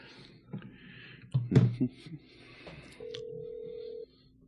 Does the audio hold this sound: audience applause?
no